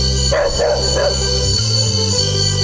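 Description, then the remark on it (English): A big dog gives three quick, deep barks in close succession, loud, then falls quiet while a steady low droning background continues. “A big barking dog is a scary sight.”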